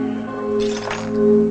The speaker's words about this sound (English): Jack gets the broom and looks at the broken glass. He begins sweeping up.